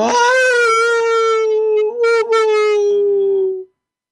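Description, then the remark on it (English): A single long, mournful human wail, made at 4 in the morning, holds a steady pitch, sinking slightly before cutting off after nearly four seconds. It is loud and alone, with a howl-like, rich tone and no talking. “And so, being a sound person, I thought, I'm going to make the sound of this emotion. So I started wailing.”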